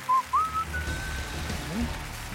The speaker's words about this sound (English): whistling the Carol Burnett song